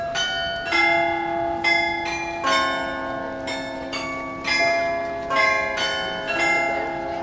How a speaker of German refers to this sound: Unter mir siehst du das größte Glockenspiel Deutschlands.